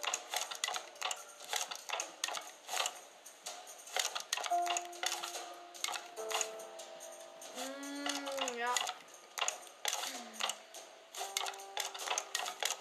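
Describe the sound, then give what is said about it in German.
Rapid, sharp hammer blows strike over and over in an uneven rhythm, pausing briefly now and then, while a voice hums or speaks briefly in the middle. “Ihr werdet euch jetzt die ganze Zeit den Hammer hören.”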